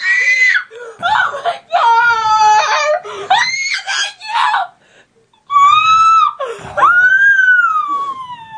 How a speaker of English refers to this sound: Can I get this whole thing as a drop? Just oh yeah, screaming?